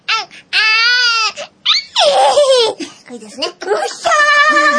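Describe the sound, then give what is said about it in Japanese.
A voice imitates a baby as the second in a series of voice impressions, alternating drawn-out wailing cries with short babbling sounds, loud, in several bursts over a few seconds. “じゃあ2番目。赤ちゃん。”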